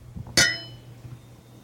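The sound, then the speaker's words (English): A single bright clink of wine glasses touching in a toast to Friday with an old, decanted wine, with a clear ringing tone that fades slowly over a low background hum. Nobody speaks. “Yeah, cheers. Chin chin.”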